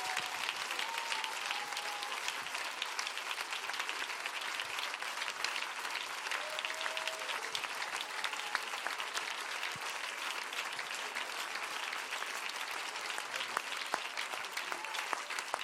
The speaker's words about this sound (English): If you believe it, would you clap your hands right now with all of your might?